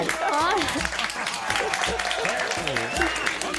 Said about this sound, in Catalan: Que poden fer un aplaudiment, eh? Un aplaudiment, per favor.